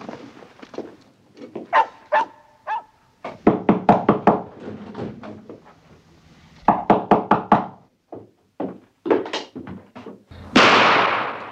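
Loud knocking on a door in several quick bursts of four or five raps, with a dog barking briefly near the start and a burst of rushing noise at the end.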